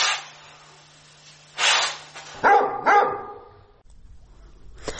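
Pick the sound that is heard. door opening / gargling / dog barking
dog barking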